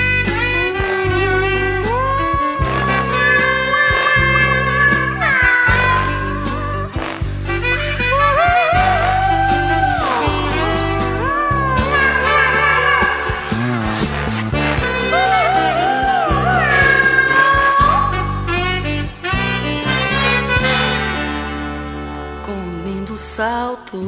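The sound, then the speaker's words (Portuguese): A husky female voice sings a flowing melody over full band accompaniment with a steady bass pulse, loud and continuous throughout. “ela tem uma voz, com aquela voz rouca dela.”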